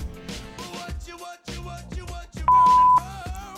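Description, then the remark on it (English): A single sharp voicemail beep on a phone, a steady electronic tone lasting about half a second, cuts in loudly over busy tonal background sound, which carries on after it stops. “Like, you can't tell me to answer my fucking phone and then send me to voicemail.”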